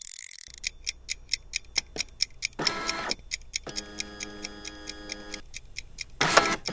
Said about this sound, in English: Let the game begin with just 10 minutes on the clock. I mean, on my kitchen timer.